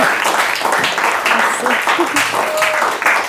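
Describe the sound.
A steady wash of audience applause, dense overlapping claps at an even loudness throughout, with a few faint voices and cheers mixed in.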